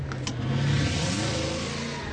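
A Porsche engine accelerating, a loud continuous low drone whose tone climbs slightly in pitch as it revs, with no voices over it.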